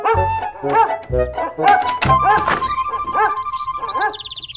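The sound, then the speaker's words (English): A dog, Baxter, barks repeatedly in quick, excited bursts, loud, with low thumping sounds mixed in between the barks as he bounces in the morning. “Baxter barks and bounces.”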